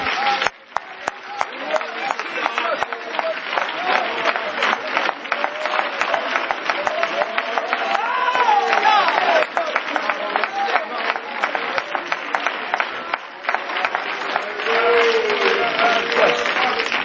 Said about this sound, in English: Is he worthy? Let's give him a hand of applause.